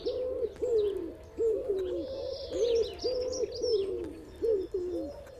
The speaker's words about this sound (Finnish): Sepelkyyhky on Euroopan suurin kyyhky. Vanhan linnun puku on siniharmaa, kaulan sivussa on valkea täplä eli sepel. Lennossa näkyvät siiventaipeiden valkeat laikut ja pyrstönkärjen leveä musta vyö. Se on helppo tuntea.